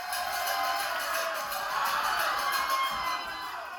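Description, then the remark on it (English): A crowd of around 40 people at a 2:30 a.m. watch party at the Tetonia Club, a local family's bar in Tetonia, Idaho, reacts together, a steady, dense wash of cheering and excited shouts with some whoops mixed in, sustained at a fairly even level for several seconds. “Around 40 people turned out to the Tetonia Club for a 2:30 a.m. watch party.”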